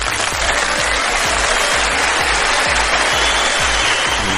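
Sustained audience applause at a contest as the contestants' scores are read out, a dense loud wash of many hands clapping steadily for several seconds with no talking over it.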